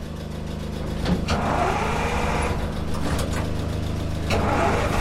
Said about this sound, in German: Der Motor springt an.